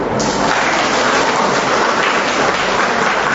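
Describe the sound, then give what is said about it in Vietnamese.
Heavy rain pours down steadily, a dense, continuous hiss that stays loud and even throughout, with no voices or other sounds breaking through. “Thưa anh chị em, trời lại đổ cơn mưa, chúng ta tạ ơn Chúa vì mình luôn luôn tỉnh thức.”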